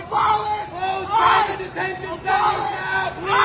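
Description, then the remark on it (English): A large crowd of protesters at a Joe Biden event chants and shouts "Abolish ICE! Close the detention centers!" together in loud, rhythmic surges, voices rising in roughly three swells with brief dips between, a dense mass of yelling with no single speaker standing out. “Okay, they're chanting.”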